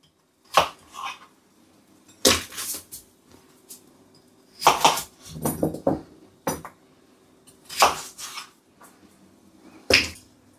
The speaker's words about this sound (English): Just going to quarter the potatoes.